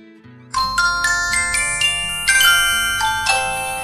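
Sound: phone call ringback tone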